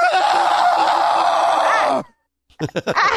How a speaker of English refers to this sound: That was it. That is the worst scream I ever heard. They actually chose that? That's just crazy.